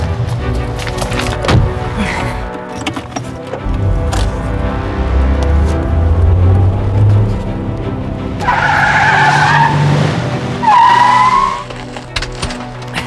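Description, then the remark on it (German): Car tires screech loudly in two long, sharp squeals over a rumbling engine as the vehicle accelerates away, intense, with no voices. “Da vorne steht mein Wagen.”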